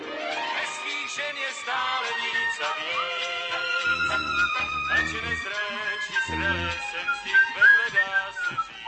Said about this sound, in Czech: Co je, tati? Musíš si hvízdat? No nemusí. Tak nehvízdej, ruší mě to.